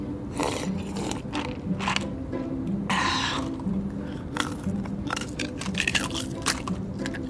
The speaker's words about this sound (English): I'm sorry, would you mind stopping that, the chewing? It's really irritating. I'm sorry about that.